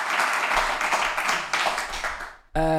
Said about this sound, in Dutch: Mag ik applaus voor Koen de Jong?